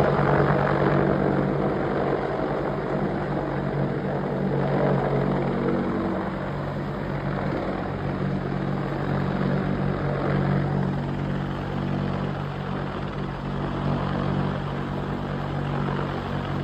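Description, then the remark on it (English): A helicopter flyover over Kid Rock's pool roars overhead, its rotor chop and engine drone loud and steady throughout with no one speaking. “The pilots who did this flyover were suspended”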